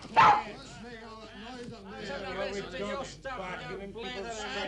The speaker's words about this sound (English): Laddie, what's all the noise about? I thought I heard a dog myself.